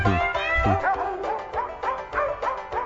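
In a novelty recording of cats and dogs singing together, dogs bark and yip in a quick repeating pattern, the barks pitched up and down almost like a melody, loud with no talking over them.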